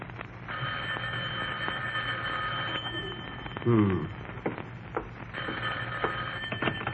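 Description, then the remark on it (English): An old telephone bell rings in Jack Benny's house in Beverly Hills, in two long, rattling bursts separated by a short pause, fairly loud over a faint background hiss, with a brief muffled sound in the gap. “Rochester, the phone.”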